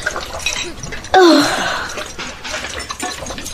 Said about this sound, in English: Now, I just need to get above the basin. That's about right. Here we go. I carefully unscrew the top of the bottle and tip it all in.